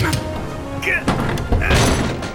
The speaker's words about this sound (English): Kristoff slammed the window shut, but Magnus was taken by the wind.